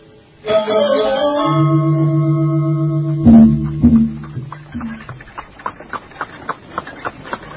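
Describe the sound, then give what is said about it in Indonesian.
A funeral procession of four carriages carrying the body of Putri Tribuana, led by Prabu Jayanegara's grand carriage, approaches: long, droning horn-like tones swell and fade, giving way to a steady rhythmic clatter of hooves and wheels, with no one speaking. “Dari jauh nampak iring-iringan kereta yang membawa jenazah Putri Tribuana.”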